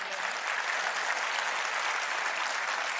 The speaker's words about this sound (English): Now you clap, but at the time I didn't know what that meant.